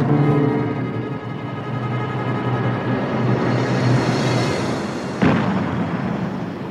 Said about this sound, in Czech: Slyšíš? Dělo z pevnosti IF. Je ti to jasný? Asi utek nějaký vězeň.